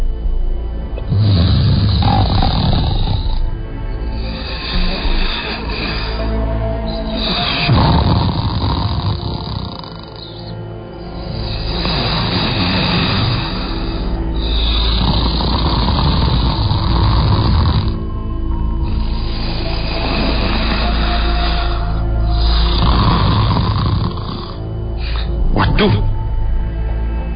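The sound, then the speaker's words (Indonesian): Loud snoring from a man wearing a pocong ghost costume repeats in rough, rasping snorts every few seconds, apparently a person imitating the sound, with no spoken words. “Ia malah mengeluarkan suara dengkurannya yang cukup keras.”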